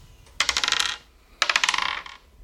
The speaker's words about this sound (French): Je vais lancer deux dés et vous devez additionner le plus vite possible les dés. Je commence.